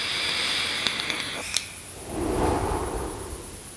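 A puff from an e-cigarette: a thin, airy hiss on the inhale with a few tiny clicks, then a softer, breathy whoosh as the vapor is slowly exhaled. No one speaks.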